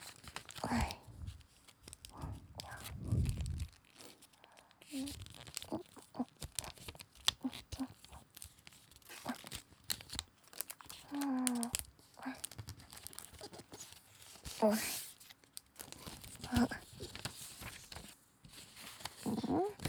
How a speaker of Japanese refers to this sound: 折り紙の音聞いてる？